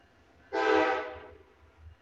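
A single loud train horn blast sounds abruptly, holding its rich harmonic tone for about a second before trailing off, with a faint low rumble underneath and no talking; about the fifth train to pass in the last hour.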